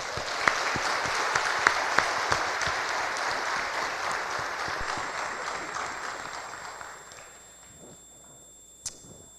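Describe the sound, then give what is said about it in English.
An audience applauds in a dense, steady patter of many clapping hands that gradually thins out and fades toward the end, with one sharp final clap. “Yeah, you can clap again.”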